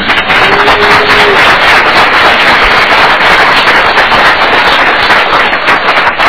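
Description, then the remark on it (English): An audience at a Tourism Committee meeting applauds for visiting students from Fergus Falls: a dense, loud patter of many hands clapping that holds steady for about six seconds, with no voices heard. “You might want to stand up and we can give you a little applause.”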